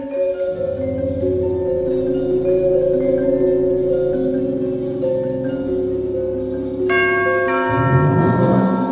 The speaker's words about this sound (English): The garage chimes and the door rolls up.